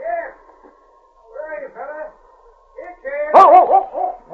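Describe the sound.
A dog gives a few short barks and yips, with one loud, sharp bark near the end, mixed in with a person talking to it in a friendly, coaxing voice.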